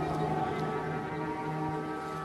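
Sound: air raid siren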